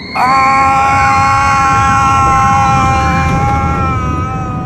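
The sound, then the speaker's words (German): A roller coaster car shoots down the slope from the highest point of its first hill as a crowd of riders screams in sustained, high-pitched voices, the loud rushing rumble of the cars running steadily underneath for the whole stretch. “Mit einem Mal schießt der Wagen den Hang hinunter.”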